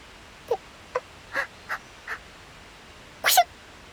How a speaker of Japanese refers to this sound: あらやだ、自覚よりも体冷えちゃってるのね。体温調整アラート、くしゃみ出ちゃった。